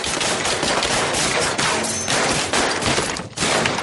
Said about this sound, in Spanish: Se ve cómo los balazos traspasan las paredes, se iluminan las ventanas por las ráfagas.